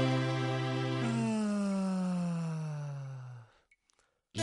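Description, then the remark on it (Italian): A single long, drawn-out voiced yawn, about three seconds, sliding gradually downward in pitch before trailing off into quiet. It is fairly loud, with no other sounds around it. “Non ho voglia, non ho voglia di far niente, e mi stiro di qua e mi stiro di là, poi sbadiglio così, poi sbadiglio cosà.”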